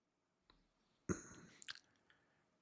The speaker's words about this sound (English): These hiccups, I swear. This is actually becoming not funny anymore.